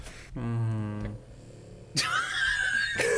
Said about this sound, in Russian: Ебать, тебя там собака храпака дает, конечно, мое почтение. Я прям аж тут чувствую.